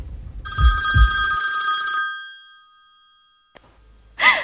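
A payphone in a phone booth, as darkness falls, rings once with its metallic bell in a loud, rattling burst with a couple of low knocks, then its tone hangs and fades slowly before a short scrape at the end. No voices.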